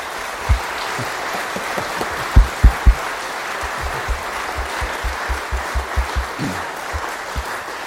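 A room full of people applauds steadily, a dense patter of many clapping hands with a few louder, closer claps standing out, continuing for several seconds.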